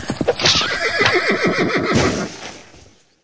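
A horse lets out a loud, wavering whinny, with pounding hoofbeats and rushing noise underneath, fading away over the final second. No one speaks.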